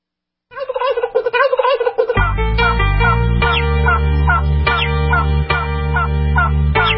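A turkey gobbles in a quick, warbling burst for about a second and a half, then a loud music track with a heavy bass beat kicks in and carries on.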